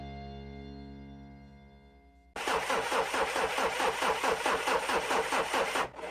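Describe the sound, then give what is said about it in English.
A steady tonal hum fades, then a car engine cranks loudly with a fast, rhythmic churning for about three and a half seconds, never catching, before abruptly stopping. “Oh no, the car won't start again.”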